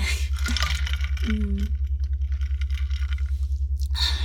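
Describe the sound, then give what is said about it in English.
A soft sip of water with a small gulp, followed by a quiet pause and another faint wet mouth sound at the end, all over a steady low hum. “So just take a sip of water, and I'll have some too.”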